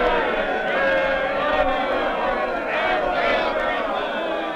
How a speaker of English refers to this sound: It is 193 AD. In the magnificent Roman Forum, a huge crowd is gathered.